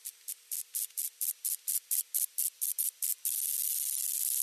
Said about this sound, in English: Is it a cricket? Close. Really close. It's a moth. Okay. I did not know moths could make sound before reading this story. I am still lost. Well, first of all, moths do make sound. They have ultrasonic mating calls.